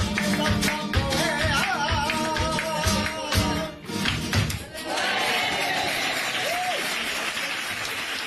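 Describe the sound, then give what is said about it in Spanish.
A crowd bursts into sustained applause, loud and dense, with scattered cheers and shouts rising over the clapping before it settles into a steady, continuous roar of hands. “Les ha tenido que gustar porque he tenido que quitar muchos aplausos porque esto se alargaba y se alargaba un montón, ¿eh?”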